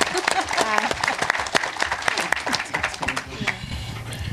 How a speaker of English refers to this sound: Okay. Feel free to applaud. I mean, absolutely.